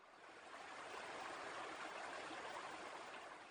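A steady rush of flowing water, like a small stream running over rocks, continuous and even for the whole stretch, with a soft hissing texture and no voices.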